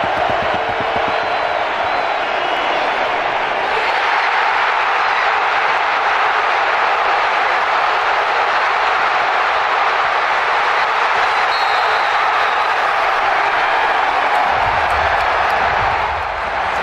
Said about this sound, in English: So this is just the crowd noise, Cooper DeJean, and obviously what stands out here is how loud it is, even though it's supposed to be a neutral site game. It wasn't. It was mostly Eagles fans. Listen to Cooper's return with just the crowd noise.